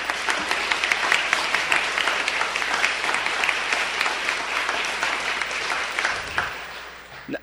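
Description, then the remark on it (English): A crowd in a hall claps steadily for several seconds for the speaker's wife, a dense, even patter of many hands at a fairly loud level that begins to thin and fade toward the end. “A big round of applause for my wife,”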